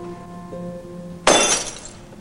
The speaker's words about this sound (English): As he returns with the wine glass, Griffin soberly meets her gaze. He lifts the glass shoulder high, then slings it down.